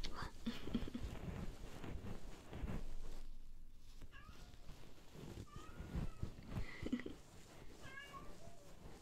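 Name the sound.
cat meowing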